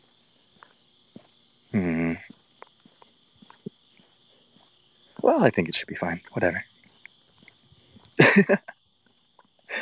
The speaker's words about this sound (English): It's 2 p.m. here, but I feel like falling asleep to the cricket sounds.